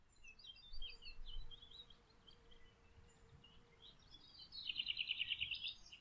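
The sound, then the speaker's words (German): Birds chirp and sing outdoors, scattered high calls throughout, with a brighter, rapid trill of repeated notes near the end, set against a soft ambient background. “Verbinde dich mit der Natur, mit der Welt, mit den Vögeln und der warmen Erde.”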